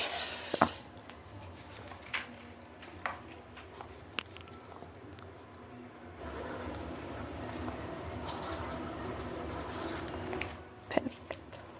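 A pen scratches across paper as someone signs a guestbook, a steady run of soft strokes broken by a few sharp taps, with faint murmuring in the background.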